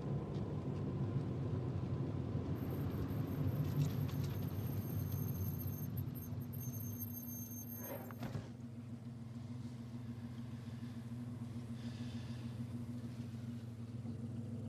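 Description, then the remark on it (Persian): A car engine rumbles steadily, a deep continuous drone with a faint high whine for several seconds and a brief clunk midway, with no voices. “ماشین رو نگه دار.”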